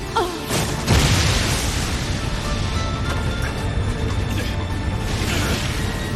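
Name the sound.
big explosion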